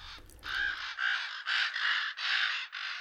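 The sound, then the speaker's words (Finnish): A common raven calls loudly, giving a rapid series of about six harsh, croaking caws with almost no pause between them and no other sounds. “Korppi on viisas lintu, niin kuin varislinnut yleensäkin.”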